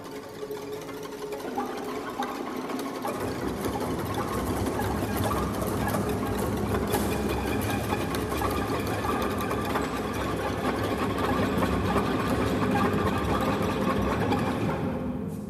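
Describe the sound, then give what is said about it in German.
Rapid, dense clattering of a violin bow's wooden stick tapping on the strings, the bow held the wrong way round, in a piece by Penderecki; many strokes blur into a steady mechanical chatter at an even loudness, with deeper tones entering after a few seconds. “Also man kann so mit dem Holz des Bogens, mit der Stange des Streichbogens auf die Saiten klopfen.”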